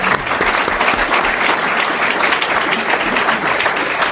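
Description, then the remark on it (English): Sustained applause from a large crowd, including police officers in the room, given for every man and woman in blue who serves the country; a dense steady wash of many hands clapping at once, loud and even throughout with no talking over it. “Thank you to all of our police officers in the room, and let's give a round of applause to every.”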